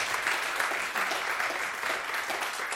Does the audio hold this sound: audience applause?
yes